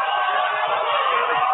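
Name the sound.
crowd cheering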